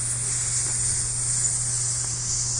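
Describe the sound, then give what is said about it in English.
A voice makes a long, steady shushing hiss, airy and high-pitched, held evenly for a few seconds over a low constant hum, with no words spoken. “Shh. I hiss.”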